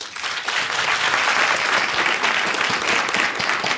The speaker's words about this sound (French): On l'attendait depuis longtemps et elle est enfin libérée. Je vous demande d'applaudir la parole.